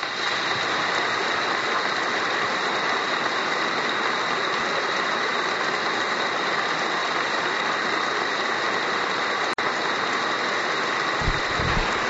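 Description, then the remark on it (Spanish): A dense, steady wash of many hands clapping together: an audience's long applause at a bishop's ceremony, given for the predecessor bishop Bernardo Álvarez. It is sustained at an even loudness for the full length with no voices standing out above it. “Aplauso para Bernardo. Exactamente. Está muy emocionado. Un aplauso largo, además.”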